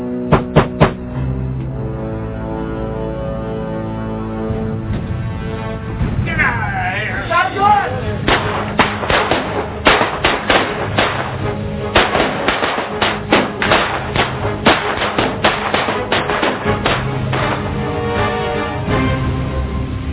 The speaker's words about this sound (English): The Klan shot down this state senator, a white state senator, because he was Republican and was fighting for the rights of blacks in his state. In that hail of bullets, Dr. Winsmith was hit 7 times.